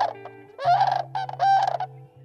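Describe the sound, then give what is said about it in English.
Sandhill cranes give loud, rolling, rattling bugle calls in two or three bursts over a steady low hum, the harsh trumpeting notes rising and falling in quick succession. “the primary reason was to protect habitat for the sandhill crane”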